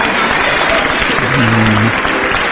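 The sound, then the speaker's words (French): Sustained applause from a church assembly for a brother about to give his first teaching there, a dense, steady clatter of many hands clapping at even loudness, with a brief low tone rising through it partway in. “Applaudissez-le.”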